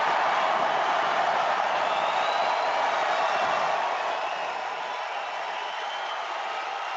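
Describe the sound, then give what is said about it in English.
A large crowd cheers and roars after the president's statement that America is being respected again, a dense, steady wash of noise lasting about 30 seconds that holds for the whole stretch, easing slightly in loudness toward the end. No one speaks. “And as I told you, that crowd cheered then for 30 seconds, and he went on to explain his position, his policy about strength.”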